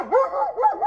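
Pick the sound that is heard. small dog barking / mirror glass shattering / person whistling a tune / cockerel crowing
small dog barking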